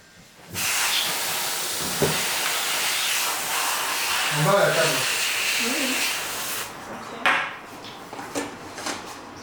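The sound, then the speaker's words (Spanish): A steady hiss of aerosol smoke-detector test spray, used to test a standalone optical smoke detector, runs for about six seconds, broad and loud, with faint murmuring sounds underneath before it cuts off and a few small knocks follow. “Al ser un detector de humo autónomo, vamos a poder probarlo con un spray para detectores de humo.”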